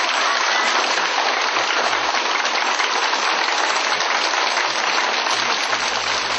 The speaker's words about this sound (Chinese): 现在让我们以热烈的掌声欢迎我们尊敬的来宾。